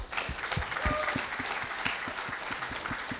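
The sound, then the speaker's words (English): An audience applauds for Jesus, a dense wash of many hands clapping at a fairly even volume, with a few sharper claps standing out in a loose rhythm throughout. “Let's give a round of applause for Jesus.”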